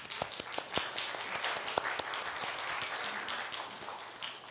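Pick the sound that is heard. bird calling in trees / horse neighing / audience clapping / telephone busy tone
audience clapping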